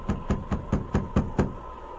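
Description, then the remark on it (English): A steady series of seven firm knocks on the wooden door of a mission, made by a sergeant with his revolver drawn, evenly spaced and fairly loud, with a faint steady hum underneath and no voices. “The sergeant drew his revolver and then knocked.”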